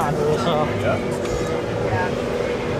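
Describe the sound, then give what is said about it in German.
A party boat with people singing and drinking passes by, its engine droning steadily beneath loud music and a crowd of voices, the whole mix dense and continuous throughout. “Sie singen, sie trinken, sie brutzeln, sie es fährt gerade ein sprichwörtliches Partyboot an uns vorbei.”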